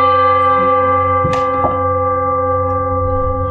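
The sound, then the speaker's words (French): A gong rings with a loud, sustained metallic hum, and two soft strikes land close together partway through as the deep tone keeps resonating evenly. No one speaks. “Maître Dogen, il l'explique exactement, il dit c'est comme un coup de gong.”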